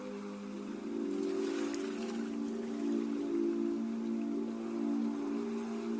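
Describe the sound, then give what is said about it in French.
A steady, hissing wash of ocean waves rolls on without clear surges, layered over a low, sustained humming drone. No one speaks. “Le son des vagues vous parvient et vous berce délicieusement.”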